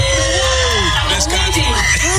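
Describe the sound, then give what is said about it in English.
A man briefly yells "energy up" right at the end, faint beneath a loud, steady wash of crowd noise with overlapping shouting voices throughout. “You know, listen faintly, you can hear the guy yell energy up right at the end.”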